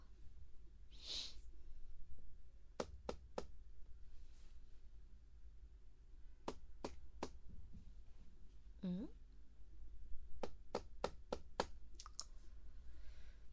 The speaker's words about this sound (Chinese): 忙什么呢？给老师切水果。